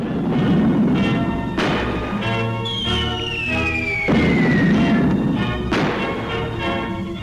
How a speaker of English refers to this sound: The flames of war heat at the heart of Manchester. In one of the fiercest raids of the German Blitzkrieg on Britain, a storm of bombs wreaks havoc in this proud city.